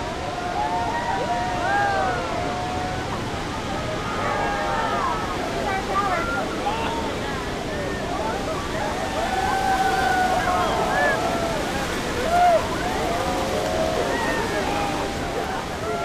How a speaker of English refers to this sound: especially when his boat's at the base of Horseshoe Falls. On each trip, he holds it there for 5 minutes so the tourists can get a good look and feel the spray.